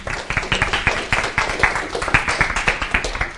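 Steady applause from an audience welcoming a speaker after his introduction at a philosophy talk, many hands clapping in a dense, continuous patter at moderate volume, with no voices over it.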